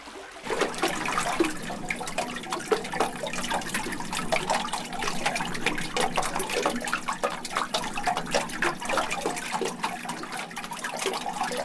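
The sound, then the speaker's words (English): River water flows steadily beneath a bridge, a continuous rush sprinkled with quick bubbling ticks and gurgles that give it a lively, uneven texture. No voices. “The river makes a marimba of the bridge.”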